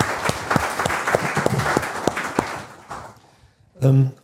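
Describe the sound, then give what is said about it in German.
A short burst of audience applause, many hands clapping in a dense patter that fades after about three seconds, followed by a brief voiced sound from one person. “Also vielleicht mal einen kleinen Applaus für die Kollegin, die das hier so gemacht hat.”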